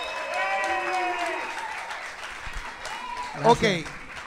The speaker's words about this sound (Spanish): Pues Johnny, vamos a darle un fuerte aplauso a Johnny Rey, que está en la casa.